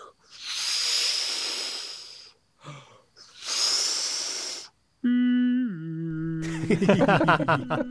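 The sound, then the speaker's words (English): In a scene from The Simpsons, Homer Simpson's voice imitates soothing ocean waves with two long, breathy shushing swells, each rising and fading, followed by a sustained sliding tone and then busy music. “I'll just make some soothing ocean sounds for you.”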